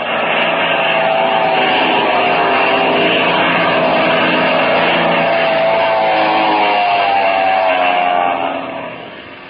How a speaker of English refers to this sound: Go back. Go back. Their plane is diving on us.